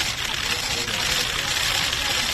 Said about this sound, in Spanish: Es el sonido de una lluvia de flashes. Un coche se acerca a un hospital de Madrid.